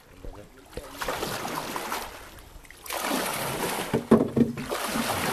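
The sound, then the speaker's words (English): Fishermen with their catches paddle their fishing boats back to shore at Nyamwere Beach on Lake Victoria, Kisumu County, after a night out on the lake. Paddles splash and dip with steady sloshing and trickling, and a few faint voices and brief calls are heard. “Here at Nyamwere Beach on the shores of Lake Victoria in Kisumu County, fishermen with their catches are paddling their boats back to the shores after a night out on the lake.”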